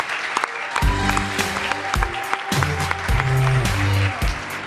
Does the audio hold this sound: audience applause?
yes